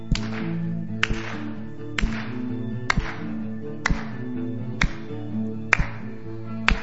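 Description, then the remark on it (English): An audience at a worship service claps hands in unison while singing, eight sharp, evenly spaced claps about once a second, over a steady bed of sustained low musical tones. “Clap. Come on. Put those hands together.”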